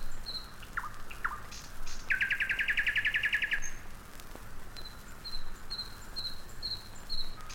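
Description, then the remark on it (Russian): A nightingale sings at night on the bank of the Moscow River near Zvenigorod: a couple of sharp downslurred whistles, a fast rattling trill, then a series of short, evenly spaced high notes, over a steady hiss of night ambience. “Послушайте ночное пение соловья на берегу Москвы-реки, недалеко от Звенигорода.”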